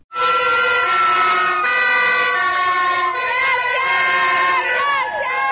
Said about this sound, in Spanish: Con aplausos y al costado de la ruta, las y los vecinos de Punilla agradecieron a los bomberos y brigadistas el enorme esfuerzo por sofocar los incendios que desde el lunes afectaron la zona que va desde Cabalango a Cuesta Blanca.